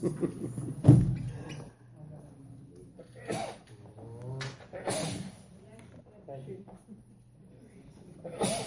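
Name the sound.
sneeze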